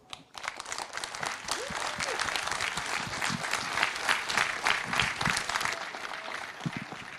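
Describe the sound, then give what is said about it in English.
Steady audience applause, many hands clapping in a dense, sustained wash for several seconds, with a few faint voices underneath before it thins slightly at the end. “Another warm applause, please.”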